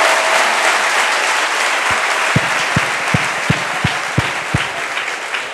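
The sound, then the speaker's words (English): An audience claps steadily, a dense wash of applause with a run of louder, evenly spaced thumps near the end, and no talking. “Yeah, you both should clap. Clap again.”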